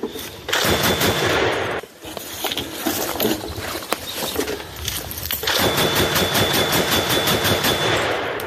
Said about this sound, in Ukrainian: Постріл.